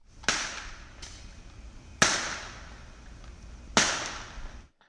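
Fireworks popping outside an apartment at night: three sharp, loud bangs spaced roughly two seconds apart, each trailing off in a short echoing tail, with a fainter pop between the first two and no voices.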